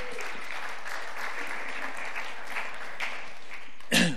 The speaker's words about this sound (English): Courageously pushed through, battled the cough, got there. He deserves a clap. I think that was great.